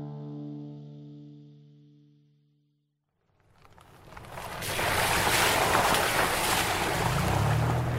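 A low sustained tone fades into a moment of silence, then a boat churns over ocean waves on the way to Santa Cruz Island in California's Channel Islands: a loud, steady rush of water and wind that swells up and holds.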